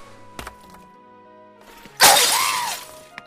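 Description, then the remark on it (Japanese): A single loud crash of glass being smashed with a large stone, a bright burst of breaking shards that rings on for about a second after a couple of quieter knocks beforehand. “割れた。大丈夫。私一人なら十分くぐれる。”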